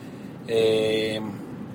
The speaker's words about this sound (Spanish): Y hoy vamos a ver cómo sale esta grabación. La estoy grabando desde mi coche.